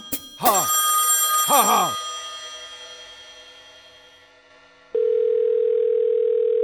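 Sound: telephone call ringing tone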